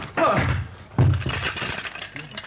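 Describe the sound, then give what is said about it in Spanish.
Glasses and chairs flying through the air crash and break in two loud bursts, the second coming about a second after the first, each followed by a jumble of smashing and clattering debris. “Y Guillermo se encontró con varios vasos y sillas que volaban hacia él.”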